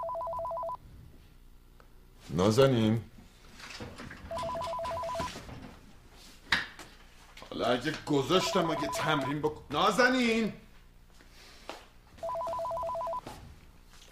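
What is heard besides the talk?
telephone ringing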